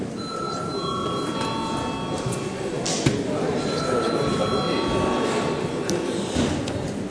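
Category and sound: signal or alarm, parliament session bell ringing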